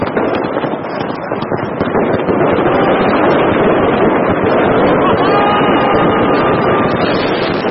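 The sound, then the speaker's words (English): A dense, continuous barrage of firecrackers pops and crackles loudly for several seconds, the rapid bangs blurring into a roaring wash with a faint whistling tone rising near the end. The firecrackers are set off on New Year's Eve in Beijing, where the city is filled with fireworks. “The firecrackers are so loud, the audience drive away in evil spirits, that they can see the neighborhood.”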